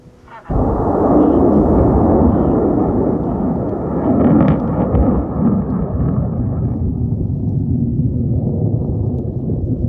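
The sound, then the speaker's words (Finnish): A deep, continuous rumbling roar of a 13-metre rocket's engine at night during launch from forest near Kiruna, Swedish Lapland: starts abruptly after a brief quiet moment, holds steady and loud with crackling texture, slowly fading slightly toward the end. “Yön pimeydessä näkyy vain välähdyksiä ja kuuluu kumisevaa mölinää, kun 13-metrisen raketin moottori pauhaa.”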